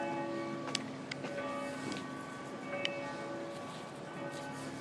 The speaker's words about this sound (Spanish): Bueno, como siempre en estos casos, pues como no sé dónde está el centro, pues habrá que guiarse por las campanas. Y esas campanas me llevan pues por ahí hacia el sol ahora mismo, que me está dando de frente. Y bueno, pues estoy en Gdynia.